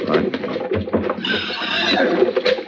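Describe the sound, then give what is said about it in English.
Horses whinny with a high, wavering cry in the middle, over irregular thuds of hooves and shuffling movement, all fairly loud and busy for a few seconds. “hold on to them horses.”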